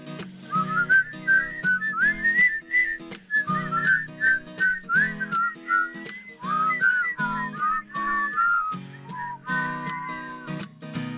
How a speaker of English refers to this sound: Here's the whistling part again. Are you ready?